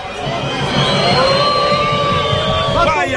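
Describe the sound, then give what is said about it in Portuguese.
A stadium crowd at the VGD boos the Londrina team at the end of the match, after their loss to Novo Horizontino, in a steady, loud roar of many voices, with drawn-out, wavering tones riding over the dense noise for a few seconds. “Vaias pro time aqui no VGD, hein?”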